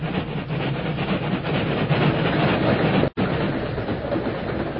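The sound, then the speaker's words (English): A freight train rumbles past a ravine near a railroad right-of-way east of Elk City, a steady dense roar of wheels and cars with faint rhythmic clatter, briefly cut by a split-second dropout before continuing. “We'll wait here in this ravine till the train goes by, Tonto.”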